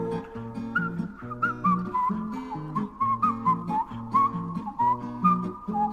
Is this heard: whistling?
yes